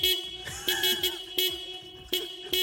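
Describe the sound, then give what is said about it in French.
The horn of Mélissa's new car sounds in a series of short, loud tonal blasts about every half second, with a slight wavering pitch and a boomy, echoing quality, recorded in the radio station's underground car park. No one speaks. “il faut qu'on vous fasse écouter le klaxon de la voiture”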